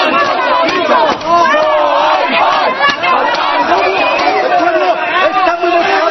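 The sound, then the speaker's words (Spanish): A crowd of protesters in Catalonia shouts angrily at a politician, a former Interior official, inches from his face on his way to the Parliament door; many overlapping voices yelling at once in a loud, continuous roar of raised voices with no pauses. “Hace unos meses, responsable de Interior en Cataluña, hoy le gritan a un palmo de su cara.”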